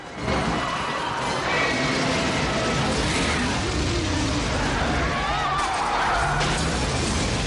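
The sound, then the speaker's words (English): A loud, unbroken roar of destruction as cars on a street are blown through the air by Godzilla's breath, crash and burst into flames, with crunching metal, shattering glass and the rush of flames. Thin whining tones cut through the steady din. “The cars sail through the air and burst into flames.”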